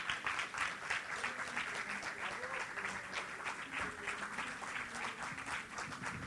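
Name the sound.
warm audience applause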